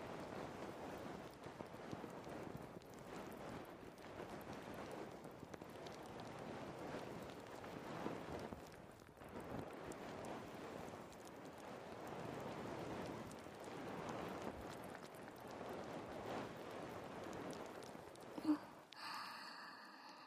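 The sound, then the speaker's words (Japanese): Steady fizzing and crackling of carbonated foam during an ear massage, right against the ear, a dense shower of tiny popping bubbles that continues for about twenty seconds before briefly shifting at the end. “刺激的な炭酸泡マッサージ、もう少し堪能しておくんなまし。”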